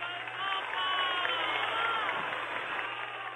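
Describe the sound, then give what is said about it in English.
A large crowd of campesinos claps steadily throughout after a speech by the Pope, a dense wash of applause with shouts of "Viva el Papa" and cheering mixed in, sustained at an even, fairly loud level from start to finish. “And was accompanied by volleys of clapping and shouts of Viva el Papa.”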